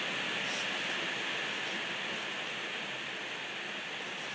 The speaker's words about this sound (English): Do not adjust your computer speakers, Tweety Pies. That is rain. That's rain in the top left-hand corner of Norfolk, on the roof of my conservatory.